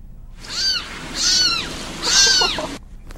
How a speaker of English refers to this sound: In Florida, animal control officers were able to save three kittens that were crying out for help.